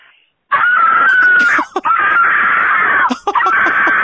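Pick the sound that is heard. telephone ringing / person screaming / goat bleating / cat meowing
person screaming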